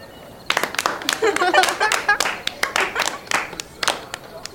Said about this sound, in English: Wow! Can we clap for our brilliant friend?